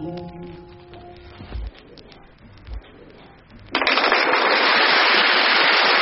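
A crackly vinyl record hisses with faint sustained tones and two dull low thumps, then bursts into a dense, steady wash of applause that fills the last two seconds.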